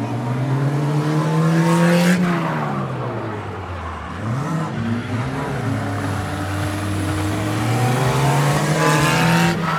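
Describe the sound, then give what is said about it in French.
Loud race car engines rev continuously on a track, their pitch climbing, dropping sharply, then surging back up in throaty waves, with a constant roar filling the background. “En fait, moi, au début, je voulais aller dans une des voitures et en fait, j'ai laissé tomber parce que ça me fait peur.”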